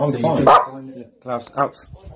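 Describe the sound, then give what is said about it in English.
A dog barks: one long, loud bark, then a pause and two shorter barks in quick succession, with faint voices murmuring in the background. “Is his name, is the dog's name Klaus Barbie, perchance?”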